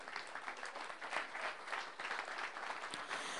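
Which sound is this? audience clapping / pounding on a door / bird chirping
audience clapping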